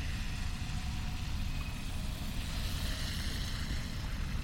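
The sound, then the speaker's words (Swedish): A steady, unbroken roar of street traffic by the Dramaten building on a sunny day, heard while waiting at a pedestrian crossing for the green light, a deep low rumble of engines with a faint hiss over it, holding at an even level throughout. No one speaks. “Det är ju mycket trafik här och det kanske är jobbigt att lyssna på.”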